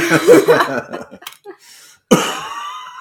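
A person who has had a cough for about six weeks coughs, a rough throaty burst early on, then after a brief quiet gap a second sharp, loud cough that trails off into a raspy exhale.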